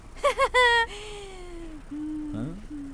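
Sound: baby whimpering and crying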